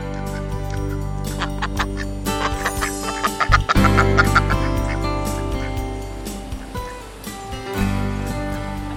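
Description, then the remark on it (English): Ducks lined up in a row on top of a river weir call in a string of quick, overlapping quacks and clucks, over a steady rush of water flowing over the weir between their toes. “Now at the moment, I can see a load of ducks all lined up in a row and kind of sitting on the top of the weir, letting the water flow between their toes.”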